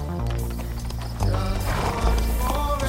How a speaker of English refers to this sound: Two men lead their horses down a path.